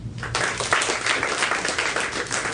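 A crowd applauds steadily, many hands clapping in a dense, sustained wash that stays fairly loud and even throughout, with no talking over it.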